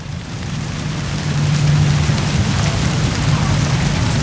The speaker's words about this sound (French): Allez, suite avec la pluie, je sais plus qui intervenait sur la pluie, mais on peut commenter après l'écoute.